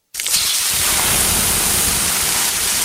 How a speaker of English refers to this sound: Hear that? The sound of water being poured on 800-degree rocks. If you were here in this sauna, you'd be so hot you wouldn't have the energy to move.